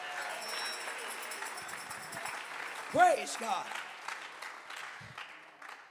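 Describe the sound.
An audience claps steadily, the dense patter filling the whole stretch, while a voice calls out briefly over the applause partway through.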